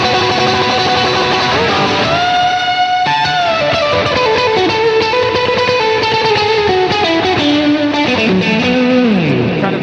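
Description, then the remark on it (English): Electric guitar drenched in wet delay and reverb, notes smearing into a continuous washy wall of sustained, overlapping tones with slow pitch bends, steady and fairly loud throughout, no voices. “I have like a much wetter delay on this Align 6 programmed, and I will turn on this reverb, and you know, I'll put that on too, and I'll just kind of like have this like really washy kind of like.”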